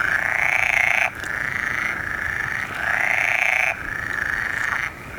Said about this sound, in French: Le croissement incessant des grenouilles.